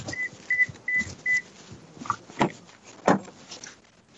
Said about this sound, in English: Got a lot of beeping going on right now.